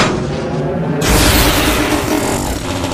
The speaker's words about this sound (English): The explosions must have shorted the electricity.